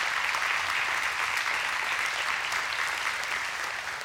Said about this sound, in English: We have any Bible scholars in? Let's applaud. Let's give them applause one more time. I really want them to know that we appreciate them.